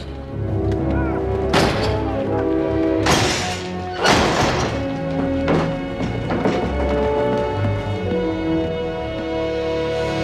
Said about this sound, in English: They crawl out through a gap in the back of the house, concealed by a table, just as the Mokra guards knock down the front door and sweep into the house.